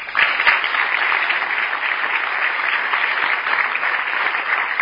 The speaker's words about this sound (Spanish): Muchas gracias y un aplauso para todos ustedes.